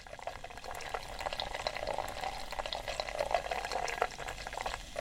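Guinness stout being poured into a pint glass: a steady, continuous gurgle of liquid with a fizzy, crackling foam hiss running throughout, no voices.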